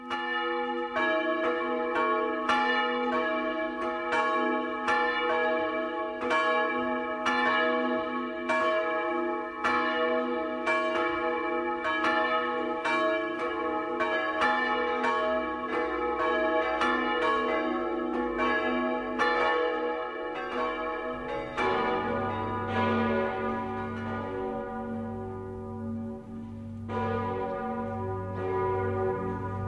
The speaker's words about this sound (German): Das Geläute der Bergkirche in Altbach in Tirol geht über Einödhöfe und Dörfer und weist denen den Weg, die durch den tiefen Schnee zur Christmette kommen.